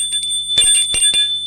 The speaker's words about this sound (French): Le patron sonne à la porte de l'appartement de Maurice.